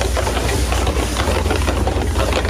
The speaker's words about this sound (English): It's the scent, the sound, and the sizzle that people in Gilroy have missed.